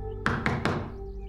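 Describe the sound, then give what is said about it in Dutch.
Three quick, evenly spaced knocks on an office door early in the morning, solid and ringing out briefly over a low steady background hum, with no voices. “kwam aankloppen bij het kantoor van Cooper.”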